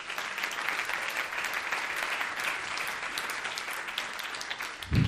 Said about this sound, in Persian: مرسی تشویقش کردید.